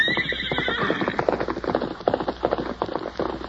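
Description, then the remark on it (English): A horse, Silver of The Lone Ranger, gives a loud, shrill whinny at the start, followed by a rapid, steady run of hoofbeats as it gallops off down a hill, clear with no voices. “For some time, the masked man stood watching his famous horse race down the hill.”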